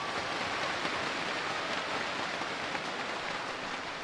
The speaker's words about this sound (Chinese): 好有前途的年轻的演奏家，希望大家俾啲掌声佢两位吓。